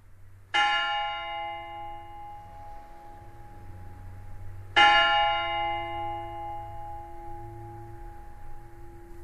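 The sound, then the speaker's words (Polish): A church bell tolls twice, about four seconds apart, each deep strike ringing out and slowly fading, with a low rumble of background noise underneath and no voices. “Dzwon, każdy jeden dzwon, zwołując na to, co Boże stara się swoim głosem wyciszyć wszystko, co w naszych sercach, swoim sercem, abyśmy zapomnieli o tym, co było przez cały dzień w pracy, w trudzie, we wszystkim, aby przybliżyć się ku Panu Bogu.”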